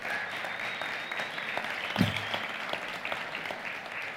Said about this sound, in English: Give them a round of applause for all the hard work they do.